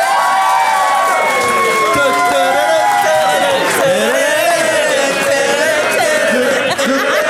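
crowd, audience applauding and cheering

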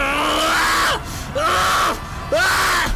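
sound effect, man screaming in agony

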